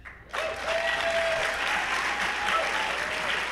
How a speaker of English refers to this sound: We are here live at the Garneau Theatre for Edmonton Lit Fest. Thank you very much. Please, a warm round of applause for our panel.